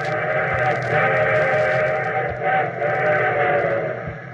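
A train sounds its whistle in a long, steady, loud blast with rumbling rail noise underneath, the tone holding for several seconds without a break.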